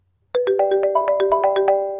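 A mobile phone rings with an incoming call: the ringtone starts abruptly, playing a bright, melodic chime of quick repeated notes in a steady rhythm, loud, with no voices around it.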